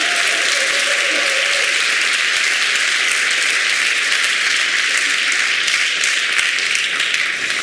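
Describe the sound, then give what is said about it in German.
An audience applauds two men seated on the podium, a dense wash of many hands clapping steadily at an even, loud level for several seconds with no talking over it. “Und ich muss zugeben, ja, das verdient einen Applaus.”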